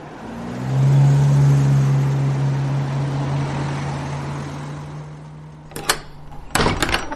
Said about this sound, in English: Oh, this damn door. I must get it fixed.